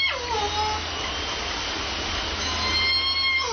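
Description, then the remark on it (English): A southern resident killer whale call from the J pod in Puget Sound, picked up by a hydrophone, sweeps downward in pitch over steady underwater hiss and low hum, followed by a second, fainter tonal call near the end. “J pod has a downward, sort of goes down in the sound.”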